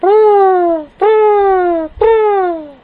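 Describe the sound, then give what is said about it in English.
Three sustained, horn-like shofar blasts in a row, each lasting close to a second and sliding slightly downward in pitch, giving a plaintive, wailing shevarim pattern with strong buzzy overtones. “Or it's the shvarim, the plaintive whimper.”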